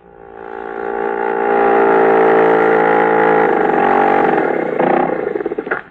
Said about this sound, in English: You are at Lake Winnipesaukee. Your outboard motor has just sputtered up to the wharf.